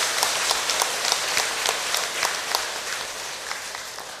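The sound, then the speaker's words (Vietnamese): An audience at a Vietnamese Teachers' Day ceremony held by a Pháp Cú (Dhammapada) class applauds to honor teachers, many hands clapping in a dense, even patter with scattered sharper claps standing out, sustained at a fairly strong level throughout with no voices. “Trung Bộ, lớp kinh Pháp Cú, long trọng tổ chức ngày Tết Nhà giáo Việt Nam, bày tỏ lòng biết ơn sâu sắc của các thế hệ học trò dành cho các nhà giáo thế học và các nhà giáo tâm linh, cho một tràng vỗ tay thật lớn để tán dương chung.”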